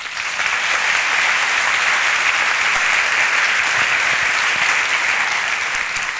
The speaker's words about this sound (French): Donc merci d'applaudir Roberto.